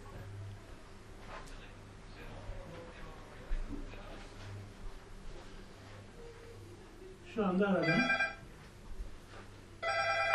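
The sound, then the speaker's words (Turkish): A mobile phone, being called by someone, rings loudly with a bright, warbling electronic ringtone in two bursts, one around eight seconds and another near the end, with faint background murmur. “Cep telefonu zırhını kaydettiler.”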